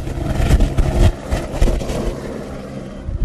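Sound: helicopter taking off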